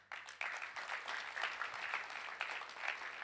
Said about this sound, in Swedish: Ska vi ge honom en applåd?